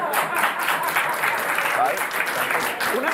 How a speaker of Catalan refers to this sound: El girem, no us miro a les cares, però aplaudiu els que us heu cagat a sobre. Va, va.